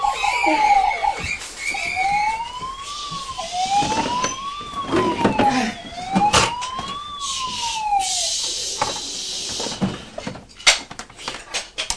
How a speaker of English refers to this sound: Oh no, that's the police car.